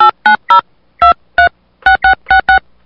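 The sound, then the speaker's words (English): Touch-tone keypad beeps dialing a phone number with many sixes at an automated phone menu's prompt: ten short, loud dual-tone presses in quick uneven groups, with brief pauses between clusters and no voices. “Please enter the phone number you would like to dial, followed by the pound key.”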